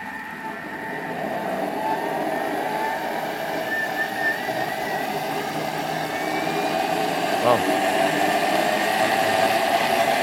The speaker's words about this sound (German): Klingt wie ein Düsenjet, ist aber nur eine Küchenmaschine. So ist es.